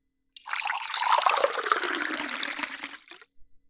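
Water runs steadily into a bottle for about three seconds, a broad splashing rush that holds even in loudness, then cuts off with a couple of faint drips. No one speaks.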